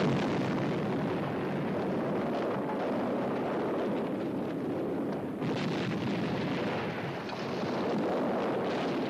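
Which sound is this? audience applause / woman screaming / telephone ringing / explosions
explosions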